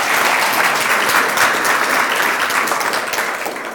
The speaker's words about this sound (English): We can, let's applaud these people.